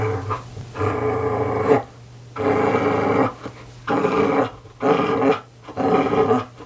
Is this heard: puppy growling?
yes